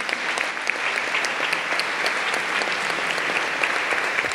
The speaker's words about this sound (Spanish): Así que gracias a Dios por sus vidas. Denle un aplauso al Señor por la vida de cada uno de ellos.